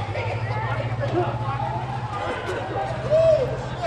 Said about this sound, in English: The sound there of protesters running from police and coughing after officers fired tear gas.